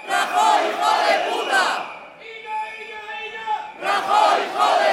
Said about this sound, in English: In a metro station just a few stops from Madrid center, about 100 chanting metro workers loaded themselves onto already packed trains.